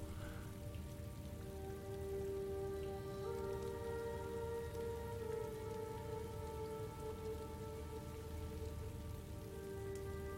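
rain

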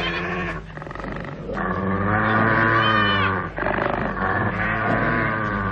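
wolves growling

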